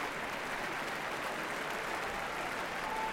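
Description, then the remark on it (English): Sustained applause from a large concert audience on its feet in the Kuzovitsky Music Shed after pianist Daniel Trifonov played Mozart's Piano Concerto No. 21, a dense, steady wash of clapping at moderate volume with no pauses or voices over it. “Very appreciative crowd here in the Kuzovitsky Music Shed.”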